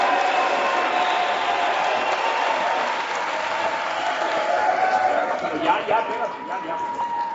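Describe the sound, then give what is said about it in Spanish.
A crowd applauds the mayor steadily, a dense wash of clapping that holds fairly loud and even for several seconds. “Alcalde, ese aplauso no es gratuito.”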